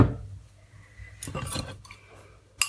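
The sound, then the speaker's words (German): A jar is lifted out of a water bath, with a burst of clattering and knocking midway, a softer rattle after, and a sharp clink at the very end. No one speaks. “So, ich fisch mal den Tiegel aus diesem Wasserbad.”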